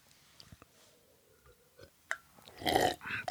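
Someone drinks water: a few soft clicks and small mouth sounds, then a run of louder, wet gulping and swallowing noises toward the end, with no talking.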